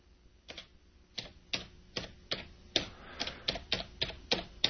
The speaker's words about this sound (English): Can you hear that I'm typing one-fingered? Because I never learned how to type.